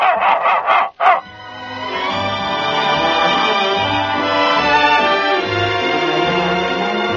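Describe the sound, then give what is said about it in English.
A dog named Fido barks on command in a radio advertisement for Gaines dog food, giving a quick run of four or five sharp barks. It then falls silent as sustained music swells in and carries on. “So remember, Fido, during National Dog Week and all year round, speak. Speak for Gaines, America's largest selling dog food.”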